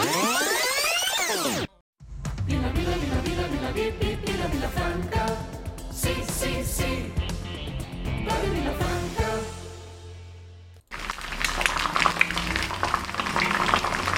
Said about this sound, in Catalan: Ai, sí, la pluja.